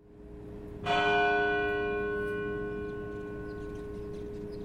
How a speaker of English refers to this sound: Also today in the Back Bay, at 2:49, the exact time the bombs went off 7 years ago, bells at the Old South Church tolled for the victims of the marathon attacks.